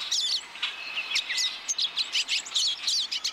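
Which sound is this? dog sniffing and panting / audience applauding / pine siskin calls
pine siskin calls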